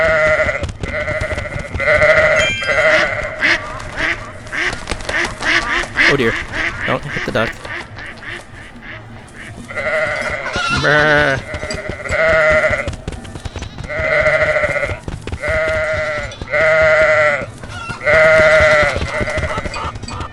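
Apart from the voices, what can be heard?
goats bleating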